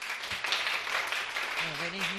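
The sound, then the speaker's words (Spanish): An audience claps steadily after a host asks for applause, a dense patter of many hands with no break, while a voice rises briefly over the applause toward the end. “Aplauso, por favor.”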